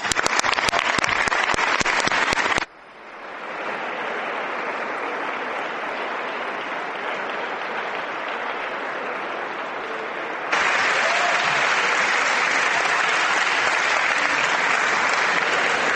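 Sustained applause from deputies in the audience for the panel, loud and continuous throughout, with dense clapping that briefly thins before swelling again near the end. No one speaks over it.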